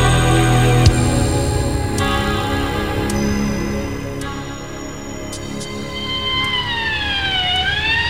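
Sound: police car siren approaching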